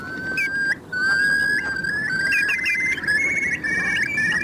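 A Eurasian curlew calls with long, clear rising whistles that swell into a bubbling trill, loud over a steady rush of wind or water noise. No one speaks.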